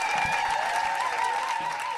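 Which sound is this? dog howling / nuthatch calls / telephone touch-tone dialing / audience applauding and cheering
audience applauding and cheering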